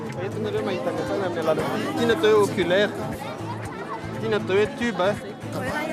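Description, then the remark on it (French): A lively crowd of families chatters steadily at an astronomy observing night, queuing to look at the Moon and its craters through telescopes and binoculars. Many overlapping voices blend into a busy babble, with a few brighter voices rising briefly above the hum throughout. “Il y a foule joyeuse et animée tous les soirs, car on vient en famille et on fait la queue pour observer la Lune et ses cratères, l'œil dans les télescopes, la lunette et même les jumelles”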